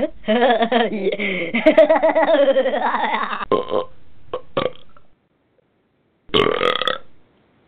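burp

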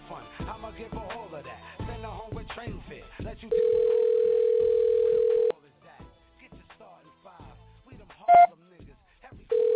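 telephone dial tone

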